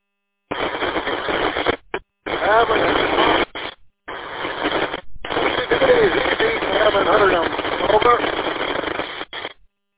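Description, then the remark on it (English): A crackling radio transmission: harsh, tinny static carries a garbled, barely intelligible voice, cutting out abruptly several times before bursting back in at steady loudness. “Yeah, he's coming a little bit more crackling right now, anyhow.”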